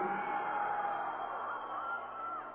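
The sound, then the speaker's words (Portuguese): A small crowd from Mato Grosso do Sul shouts and cheers together when their state is called out, a steady burst lasting a couple of seconds, moderately loud, with no clear speech over it. “Só tem um pouquinho aqui. Mato Grosso do Sul, vamos gritar um pouco mais.”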